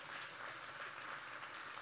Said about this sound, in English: Let you clap your hands.